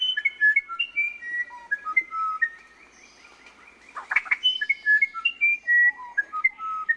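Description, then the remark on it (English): Song of South America's musician wren: a run of clear, flute-like whistled notes, each pure tone pitched differently, forming a slow melodic phrase with a brief pause and scratchy burst midway before the whistling resumes. “It's a tough decision, but many would choose South America's musician wren.”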